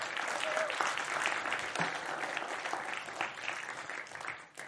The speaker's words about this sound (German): Und auch das Theaterteam, gestern Morgen eine Probe, 2 Stunden lang oder 1,5 Stunden lang und heute diesen Weg gut übergebracht. Auch ihr habt Applaus verdient.